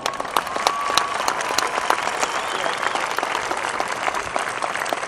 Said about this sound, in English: Affirmation of connection to audience, conclusion, polite applause and yawning.